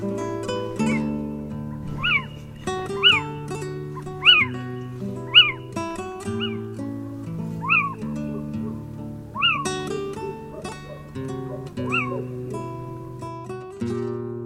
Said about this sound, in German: Das war der Steinkauz.